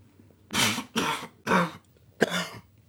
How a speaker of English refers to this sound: Nah, just getting old. It seems I can't smoke or laugh now without coughing.